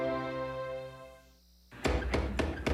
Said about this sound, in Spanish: ¡Tocan! ¿Quién? ¡La puerta!